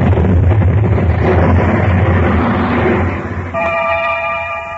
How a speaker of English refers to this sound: An investigation into the cause of the explosion was conducted. And after a very thorough inquiry, the official in charge issued a rather startling statement. There can be no question as to what caused the explosion.